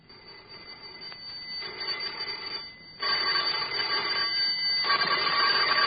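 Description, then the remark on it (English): Doorbells are rung at houses along a darkening street in several bursts of bright, buzzy, metallic ringing, each lasting a second or more with brief pauses between, growing louder toward the end. No one speaks. “Together they leave the house, go onto the darkening street to ring doorbells.”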